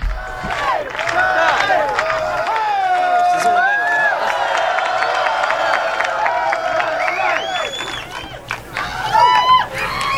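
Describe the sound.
A live audience in the Village, New York, makes a dense wash of overlapping voices, shouts and whoops, loud and continuous for the whole stretch, swelling slightly near the end.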